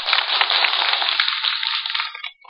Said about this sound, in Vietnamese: Thầy rất vui khi nghe được một tràng vỗ tay thật giòn, thật to của các quý vị.